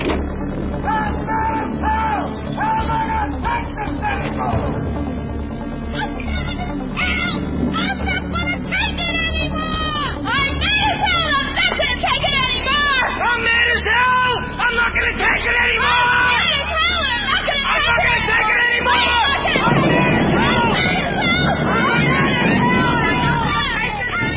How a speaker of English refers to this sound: Go to the window, open it, and stick your head out and yell and keep yelling. Hey!